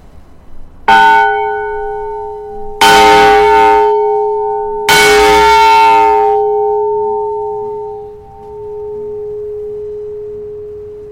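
A large, heavy old fire alarm bell, about the size of the Liberty Bell, made by Naylor, Vickers and Company of Sheffield and numbered 890, once used as an emergency fire warning, is struck three times at roughly two-second intervals, each loud clang leaving a deep, sustained ring that slowly fades over several seconds. No voices are heard.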